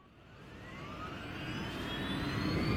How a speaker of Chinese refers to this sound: 男人四处看了看，坐到了驾驶室里，发动了飞机。